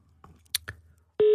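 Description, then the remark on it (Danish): A few soft clicks and rustles, then a loud, steady, slightly deeper telephone ringing tone cuts in abruptly near the end and holds without a break, as a call is placed from Radio 24/7. “Lidt dybere ringetone.”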